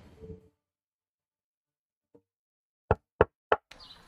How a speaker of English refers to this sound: Why the hell are you knocking on my door?